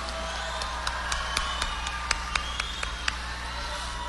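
An audience applauds, a dense wash of clapping with a few sharper, louder claps standing out at irregular moments, steady in level across the few seconds.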